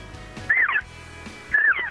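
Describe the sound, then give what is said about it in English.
Two short, high-pitched elk cow calls blown on a diaphragm call in a demonstration of basic elk calling, each a squealing mew that rises then falls, about a second apart, with no talking. “So, a diaphragm call, you want them to do a cow call.”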